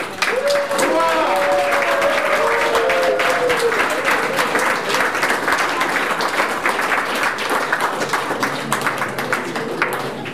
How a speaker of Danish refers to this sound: Så jeg vil bare bede jer alle sammen at give ham en kæmpe hurra og en kæmpe klapsalve.